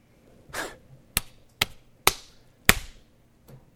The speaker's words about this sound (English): I'm slapping myself in the face and it hurts. And I'm sure it's turned red as hard as I hit for those listening out there today.